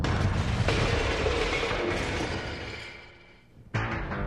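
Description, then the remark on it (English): A loud bomb explosion roars with deep rumble and fades slowly over about three seconds, then a second sharp burst cuts in abruptly near the end. The blast knocked out all the windows down the street. No voices. “The blast knocked out all the windows down the street.”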